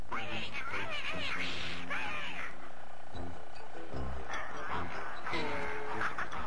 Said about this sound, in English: Don't worry, guys. It's only a cat. A cat?